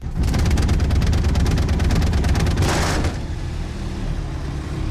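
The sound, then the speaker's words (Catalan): A small aircraft's four-cylinder, four-stroke piston engine is started: it coughs and catches, a rapid run of firing pulses building into a loud, steady roar before settling to a lower, rumbling idle. No one speaks. “Bueno, ja hem posat el motor en marxa.”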